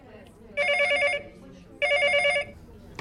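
A telephone rings twice as a call is placed to a restaurant, each ring a fast warbling electronic trill lasting about half a second, separated by a short pause. The rings are clear and fairly loud over a faint background.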